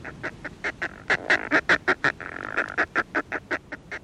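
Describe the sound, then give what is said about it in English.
Harsh, honking northern fulmar calls in a rapid, rhythmic series, about twenty clipped cackling notes with a brief throaty run in the middle, fairly loud against faint background noise. “Fulmars are polymorphic, that is to say, they come in more than one color.”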